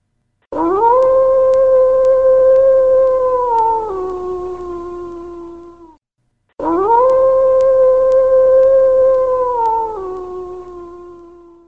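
Two long, loud wolf howls, one after the other, each rising sharply and then holding a steady mournful tone before tapering off. No voices or other sounds accompany them.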